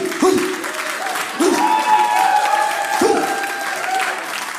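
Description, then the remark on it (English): Steady audience applause fills the whole stretch, a dense wash of many hands clapping at an even level, with a few brief sliding tones and whistle-like notes rising above the clatter. “Don't clap too hard.”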